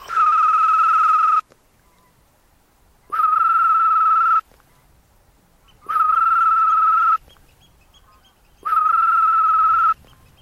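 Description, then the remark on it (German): A person imitates the male green toad's mating call: four long, steady high trills, each about a second and a half, separated by pauses, loud with no speech. “Um diese wieder anzulocken, imitiert … den männlichen Balzruf der Wechselkröte.”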